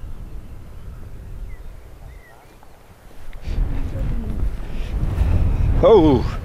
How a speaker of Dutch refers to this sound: Oh, hier steekt de wind ook op over het open veld.